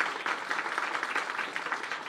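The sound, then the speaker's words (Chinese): A large audience claps steadily together to give glory to the Lord. It is a dense, sustained wash of many hands applauding at even loudness throughout, with no voices standing out. “相信的拍手把荣耀归给主，好不好？大声一点，大声一点。”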